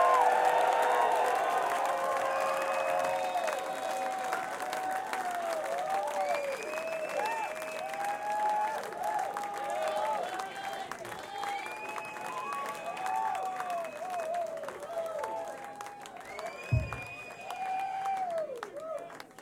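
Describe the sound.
A concert crowd applauds and cheers for a band, calling for an encore, with a dense wash of clapping, whoops and shouted voices throughout and a brief thump near the end.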